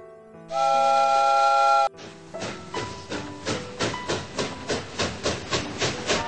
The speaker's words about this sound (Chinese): 火车终于来了，火车哀地发出一声好像叹气似的声音，哐当一下停了下来。是不是从很远的地方跑来，累坏了呢？